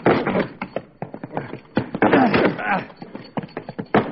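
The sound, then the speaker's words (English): Someone bangs repeatedly on a locked tool shed door, trying to break it open: a rapid, irregular series of loud thuds and thumps, with straining voices and grunts mixed in between the blows. “That door won't budge.”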